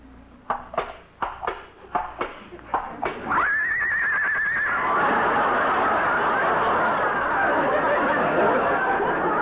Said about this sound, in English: Listen to that, Molly. She's caught cold already. Poor kid. Dearie, you can open your eyes now. Lillian is a horse.